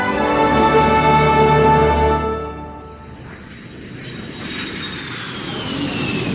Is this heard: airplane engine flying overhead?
yes